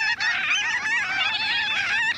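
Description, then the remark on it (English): A large flock of gull-sized, tawny brown shorebirds with cinnamon underwings calls overhead above the tide flats of a coastal bay on an April day, dropping to the mudflat, a dense, continuous chorus of overlapping nasal, honking cries, loud, with no voices present. “Look up, a large flock of birds. They're the size of gulls, but a lovely tawny brown with bright cinnamon-colored underwings.”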